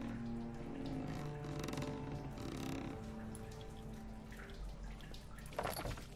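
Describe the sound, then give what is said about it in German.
Water splashes and trickles steadily for several seconds as a bucket is filled with water and hauled up, with brief drips and sloshes rising near the end over a low, steady background hum. “So, und jetzt hole ich es hoch und habe Wasser, oder was?”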